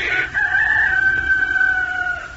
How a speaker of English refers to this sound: But the rooster would crow and answer.